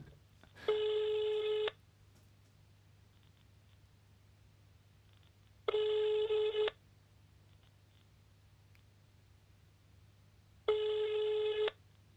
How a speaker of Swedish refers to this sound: Nu ringer det. Som ni kanske märkte.